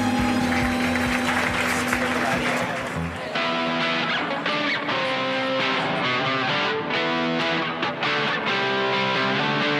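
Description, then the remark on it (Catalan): Steady audience applause and cheering for award recipients at the end of a programme, over live music from a band, loud and continuous for the whole stretch, with a dense wash of clapping at the start that thins slightly as the band plays on. “Un aplaudiment per tots, gràcies.”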